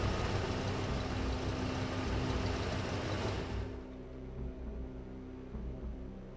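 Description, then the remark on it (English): A pickup truck engine idles with a steady low rumble as the truck is driven out into the desert, a broad rushing noise over it at first, then dropping away to leave just the quieter, even idle. “She sits silently in the cab of a pickup truck with her son as her husband drives them out into the desert.”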